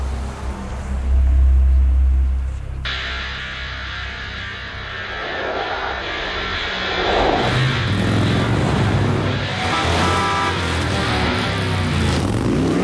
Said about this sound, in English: the limo drives off.